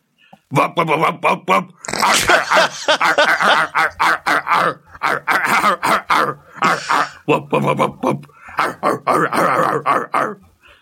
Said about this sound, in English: That is the sound that the dog made when he knocked your plate off at Christmas and grabbed your chicken.